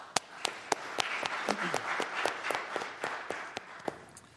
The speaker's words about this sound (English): So at first, I want you to give yourselves a round of applause for creating such a great space.